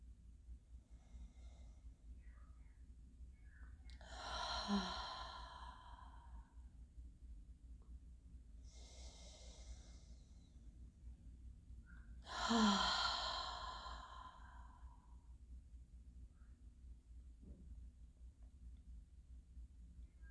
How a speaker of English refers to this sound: Breathe out with a relaxed, open mouth. Keep breathing in through your nose and out through your mouth.